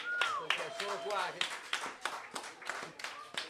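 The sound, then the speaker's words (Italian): An audience at Conchetta, a historic Italian club stage for 200-300 people, claps in a steady, uneven patter of sharp hand claps, with voices and a rising whoop or cheer mixed in at the start, moderately loud throughout. “Noi abbiamo 38 anni, un applauso a Conchetta, a questo straordinario palco.”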